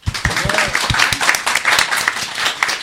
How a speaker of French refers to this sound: On peut vous applaudir.